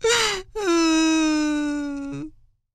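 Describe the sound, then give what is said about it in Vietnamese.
A voice wails as a lonely crocodile in a story, in a drawn-out, crying moan: a short sob, a brief break, then one long sustained cry that slowly falls in pitch and trails off, performed as theatrical weeping. “Thì tại tôi lẻ loi nên tôi buồn quá, tôi khóc chứ sao.”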